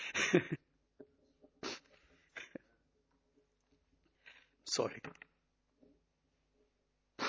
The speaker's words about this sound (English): Oh, God bless you.